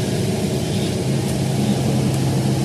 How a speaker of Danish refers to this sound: nu sidder vi jo så nede bagerst i bus 928X, som kørte fra Randers station.